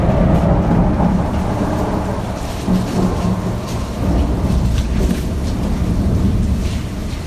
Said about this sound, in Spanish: No, con el trueno. Ah, con el trueno.